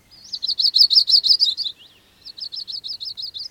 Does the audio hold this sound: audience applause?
no